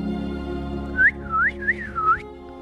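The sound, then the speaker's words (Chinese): A person who has slowly walked up to the bushes whistles a birdlike phrase imitating a robin: a few swooping, warbling notes that rise and dip in pitch, moderately loud over a low steady hum, with no talking. “迪克森慢慢地走到灌木丛边，然后发出了像知更鸟一样的声音。”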